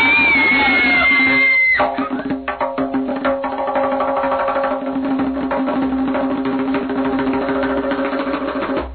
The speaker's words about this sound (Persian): فهمیدن اون یه گرگه، همون گرگه بزرگه. بچه ها جیغ کشیدن تا آقا گرگو دیدن.